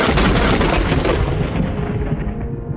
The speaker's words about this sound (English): The clouds part. The lightning bolt strikes.